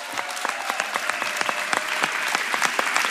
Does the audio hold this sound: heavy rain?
no